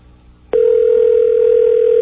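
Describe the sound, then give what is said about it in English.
A telephone ringback tone on a call to Mobile, Alabama: after a half-second of low hum, a single loud, steady electronic ring starts and holds unbroken at one pitch to the end. No one speaks. “We'll give it two more rings here, and then we're going to move on.”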